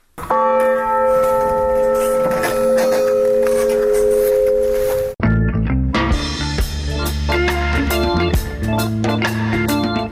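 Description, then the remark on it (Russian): A heavy old church bell in the Smarhon region is rung by swinging its heavy clapper, with long, sustained metallic tones that hum and linger, then a fuller, denser peal of low, clanging strikes, loud and resonant with no talking. “Я подошел и разгайдал ягоны тяжкий язык. По маляўнічых пагорках за вяллю паплыў ягоны цяжкі гук.”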